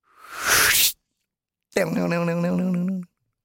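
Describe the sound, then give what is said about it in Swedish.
A voice imitates a bow and arrow: a breathy whooshing rush for about a second, a short pause, then a buzzing, wavering vocal twang as the arrow sticks in the target, loud. “Det är mer pilen du härmar, det är inte pilbågen.”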